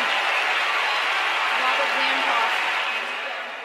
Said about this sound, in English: Now, as the set continues neck and neck, here's that first clip you heard, when Davenport hits a backhand winner down the line. And the crowd roars.